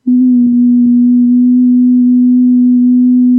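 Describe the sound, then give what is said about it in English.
A single steady pure tone hums at a constant low-mid pitch, loud and unwavering for the whole few seconds, with faint crackle beneath it and no voices. “And the frequency I heard was right around this frequency.”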